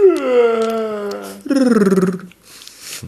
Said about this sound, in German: gähnt immer mit Zungen-R.